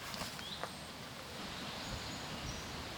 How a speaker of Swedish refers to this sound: Där hörde vi lite, ett litet kvitter. Ja, det hörs många lite avlägsen. Ja, det var lite närmare innan.